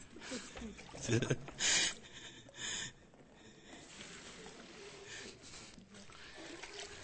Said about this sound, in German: Oh, pass auf, müsst du doch abschöpfen, jetzt ein bisschen. Einen Moment, wir müssen noch Wasser abschöpfen.